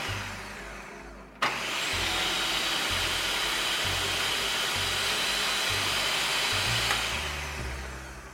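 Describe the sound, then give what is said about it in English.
A low hum gives way after about a second to the sudden start of a food processor motor, a loud, steady, whooshing whir that runs unbroken to the end with no talking, pureeing coarsely ground ingredients while oil is slowly drizzled in. “Okay, so now that everything is coarsely ground, I'm going to slowly drizzle in the oil while the motor is running.”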